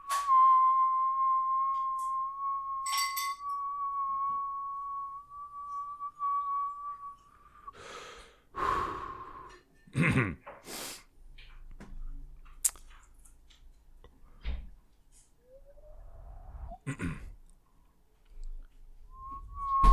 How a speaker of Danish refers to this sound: Prøv at se, hvor lang tid jeg kan fløjte en tone.